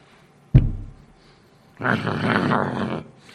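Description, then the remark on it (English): A sharp thump, then a pause, then a person growls in imitation: a rough, gravelly sound held for about a second, fairly loud, with no speech. “There's not a one of us wants to get that growling and chewing out, do we?”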